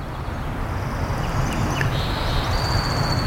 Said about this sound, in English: Distance, we can hear a jet plane fading away.